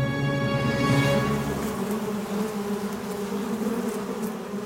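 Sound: honeybee swarm buzzing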